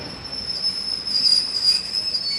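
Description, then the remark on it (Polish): A Regio regional train from Szewietowo pulls into a station on track one at platform three, ending its run; its wheels let out a steady, piercing high squeal over a broad rumbling rush as it slows along the platform, with no voices. “Pociąg Regio ze stacji Szewietowo wjedzie na tor pierwszy przy peronie trzecim.”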